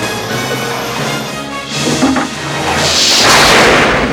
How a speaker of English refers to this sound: Lightning blasts the clock tower, the wiring, and Doc. It leaps through him into the DeLorean, and Marty disappears.